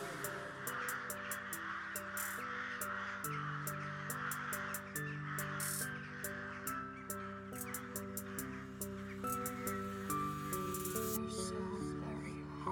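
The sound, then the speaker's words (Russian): Crows caw repeatedly over a dense music track with sustained synth tones and a steady beat of crisp percussive ticks; the harsh calls sit in the mix rather than standing alone. “Улетали птицы, шугая звуков воронья.”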